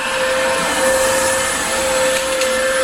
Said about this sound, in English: Okay, so they've had me doing the hoovering.